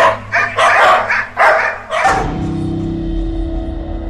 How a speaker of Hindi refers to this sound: सौम्या के लाख मना करने पर भी निकिता कुत्तों को भगाने के लिए गाड़ी से नीचे उतरी कि उसे चारों तरफ से कुत्तों ने घेर लिया।